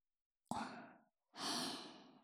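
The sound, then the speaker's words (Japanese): Two soft, breathy exhalations of warm breath blown before ear cleaning, a short airy puff followed by a longer, steadier warm blow, with a brief pause between them and no talking. “じゃあ最初は耳かきをしやすいように、あったかい吐息でふうふうしちゃいますね。”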